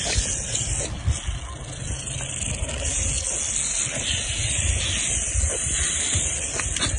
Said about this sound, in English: And the reason I'm playing this clip is because you can actually hear the rattles on the rattlesnake very, very distinctively.